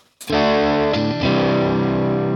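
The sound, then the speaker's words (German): An electric guitar played through the amp's lead channel with mild distortion plays a few loud, sustained chords, shifting chords twice with ringing overdriven sustain and no talking. “Der ist ähnlich von der Verzerrung, ne? Ähnlich mild.”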